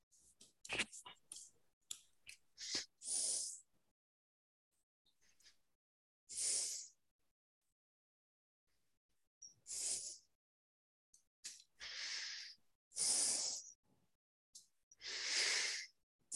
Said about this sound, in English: All right, once again, whoever's on the phone, if you could please mute your phone in some way that we don't hear your breathing, we would appreciate that.